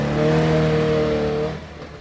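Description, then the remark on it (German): A small Trabant car engine drones at a steady high idle with a buzzy, harmonic tone, holding for about a second and a half before dropping off abruptly into quieter rumble. “Trabant. Eben, eindeutig.”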